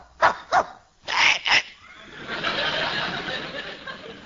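A dog named Wolver barks four times in two quick pairs, fairly loud, followed by a steady wash of broad noise that fills the rest of the moment.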